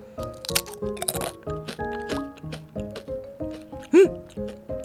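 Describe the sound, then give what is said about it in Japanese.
Sharp crunches of someone biting into and chewing a large, crispy nori-and-soy-sauce flavored snack, each piece about 5 cm wide, repeated in an uneven rhythm, with brief vocal murmurs and a short hum-like sound near the end. “早速いただいていきます。 こちらはね、海苔醤油味だそうです。いただきます。”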